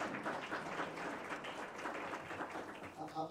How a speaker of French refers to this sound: Eh bien, je vais lui dire que vous avez bien applaudi.